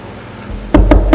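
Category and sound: impact, knocking on a door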